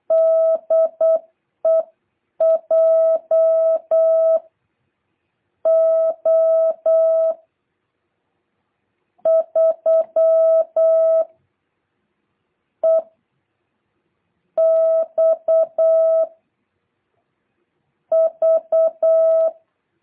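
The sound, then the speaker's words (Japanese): Morse code (CW) sent as a steady, mid-pitched beeping tone, spelling out a Japanese amateur radio callsign beginning with J, from a station contacted in CW this year, with quick dots and longer dashes grouped into several bursts separated by short pauses, clear and alone with no voices. “CW で更新した曲です。皆さん将来、お相手してもらえるかもしれない曲です。”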